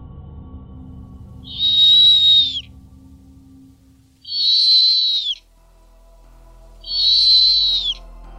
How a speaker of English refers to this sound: These are just a couple of the snowy owl's vocalizations. Could these be mistaken for a train whistle?